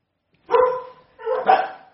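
Two barks from a dog, each a loud, drawn-out woof, about half a second apart. Clear, with no talking over them.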